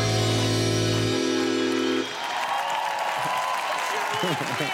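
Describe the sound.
A sustained, buzzing musical tone gives way after about two seconds to a dense wash of audience applause, loud and steady, with voices rising over the clapping.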